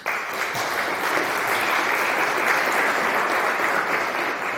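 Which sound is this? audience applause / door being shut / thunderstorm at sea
audience applause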